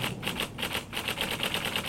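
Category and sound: household object, mechanical keyboard typing clicks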